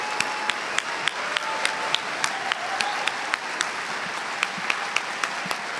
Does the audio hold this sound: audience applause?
yes